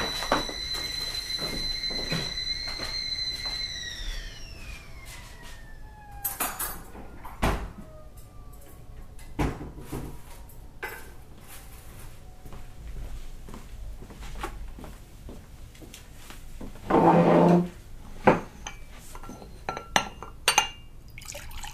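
A kettle's whistle slides down and fades as the water boils, followed by scattered glass clinks and a short burst of water being poured into a glass while tea is made. No one speaks.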